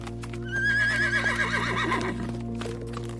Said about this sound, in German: Ihr Anblick verleiht dem Garten eine große Dimension von Freiheit und Weite, während ihr rhythmisches Wiehern und das Klappern ihrer Hufe eine beruhigende Melodie bilden, die mit dem Wind über die Landschaft schwebt.